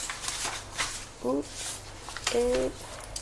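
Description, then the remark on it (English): Quick, irregular clicking of keys being typed on a computer keyboard as someone enters a client's details into Notepad, with a couple of short voiced sounds breaking in partway through. “Obviously, I'm just gonna write you in my computer because I just started learning about computers like 2 days ago.”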